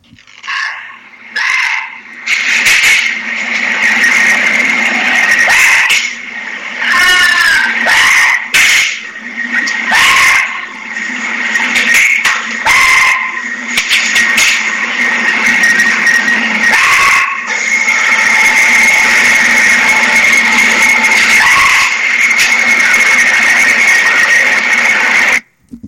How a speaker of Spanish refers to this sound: Se escucha varios ruidos, desde luego el audio no es muy bueno, pero lo que se escucha son los objetos que están cayendo. Y en el video se puede observar cómo salen volando estos objetos y luego caer al piso.